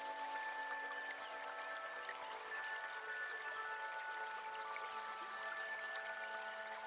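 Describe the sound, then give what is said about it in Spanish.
A steady, continuous rush of flowing river water fills the scene at an even, moderate level, with faint sustained tones running underneath and no voices. “Es muy típico, por ejemplo, las comunidades indígenas, que uno duerma con la serenata de las corrientes, pero es el ruido del río que hace el ambiente y el ruido de la naturaleza.”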